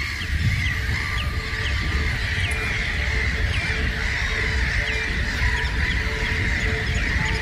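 A colony of at least 200 pairs of black-headed gulls on a sandbar keeps up a steady chorus of harsh calls, with thinner begging cries from chicks walking on the sand mixed in, all half-buried under loud, continuous wind rumble.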